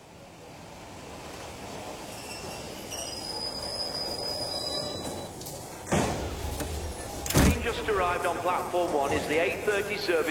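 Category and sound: vehicle, train arriving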